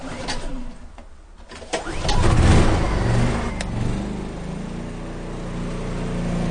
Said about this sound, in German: Mit großem Ernst vollzieht er sein Ritual, füllt kaltes Wasser aus dem gelben Kanister in 2 Wasserkocher und wirft einen Generator an.